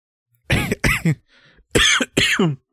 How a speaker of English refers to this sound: Are you okay? No, I'm just coughing and choking and dying. Oh, stop that.